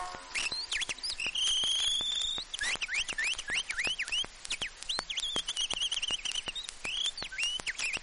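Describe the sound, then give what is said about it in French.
A person whistles an imitation of a nightingale's song: rapid clicking trills mixed with bright rising and falling whistles and sustained high notes, fairly loud, running continuously with no talking. “Le rossignol entonne le refrain que voici.”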